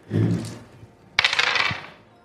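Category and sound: impact, dice being rolled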